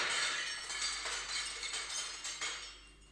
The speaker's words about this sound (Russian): Что это за шум в мастерской? Неужели кто-нибудь опять разбил зеркало?